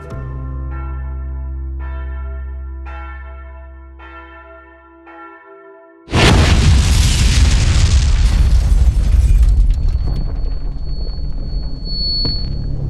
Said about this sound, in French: Il sent le souffle de l'explosion qui emporte le mur du garage, ouvre une brèche dans le mur et provoque l'effondrement de la moitié du garage dont le toit est en feu.